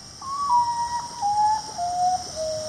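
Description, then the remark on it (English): A common potoo, a nocturnal bird of tropical Central and South America, calls alone: a mournful series of about five clear whistled notes, each a little lower than the last, over a steady hiss of night insects. “The common potu, a nocturnal bird of tropical Central and South America.”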